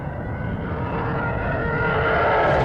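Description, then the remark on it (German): A TIE fighter screech: a dense, roaring whine that grows steadily louder and brighter over about three seconds, with no voices. “Das ist ein T-Fighter, das hast du woran erkannt? An dem Kreischen, sage ich jetzt mal.”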